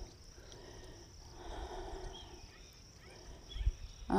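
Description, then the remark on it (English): A steady, high-pitched chorus of crickets chirps continuously outdoors in spring at Borges Ranch in the foothills of Mount Diablo, fairly faint, with soft rustling ambience and a brief low thump near the end. “And the crickets, birds.”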